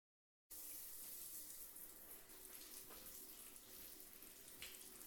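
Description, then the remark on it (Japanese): After a brief moment of silence, water starts running steadily, with soft wet splashing as skin is washed with a foamed-up sponge and hands, starting at the neck. It continues evenly with no voices. “じゃあ、首筋から泡立てたスポンジと手で、洗いながら触れていくよ。”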